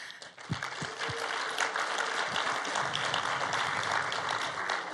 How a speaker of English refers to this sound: We are going to take a second to actually clap and welcome our visitors.